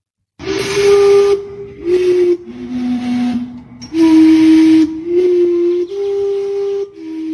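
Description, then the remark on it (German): A historic steam clock whistles a slow melody of loud, breathy notes, each long tone wrapped in hissing steam, the pitches stepping up and down with short gaps between. “Es handelt sich um eine historische Dampfuhr”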